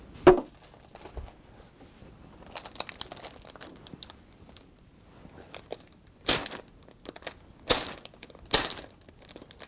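Crinkly plastic rustling and crackling as a plastic packet is torn open, with a sharp tearing burst at the start and several louder ripping bursts near the end, no voices.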